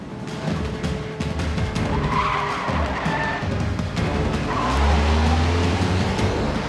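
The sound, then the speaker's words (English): A car engine roars loudly as tyres squeal and skid in drawn-out screeches, the motor climbing in pitch as the car tears away at speed, racing for a building's exit, making a tight 180 and a sharp right turn down an exit ramp. “He races for the exit. At one end of the building, he makes a tight 180 and hangs a sharp right down an exit ramp.”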